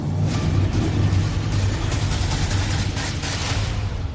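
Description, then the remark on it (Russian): Three heavy flatbed trucks carrying Leopard tanks rumble past in the capital region of Finland, reportedly heading south for military exercises. A deep, steady engine drone and road noise stay loud throughout, with no talking. “На этих кадрах 3 автомобильные грузовые платформы с танками «Леопард» в столичном районе Финляндии.”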